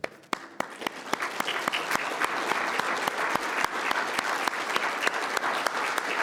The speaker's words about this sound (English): So if anybody from the security team is here, if they could stand up, maybe we can give them a round of applause for all the work they've done behind the scenes.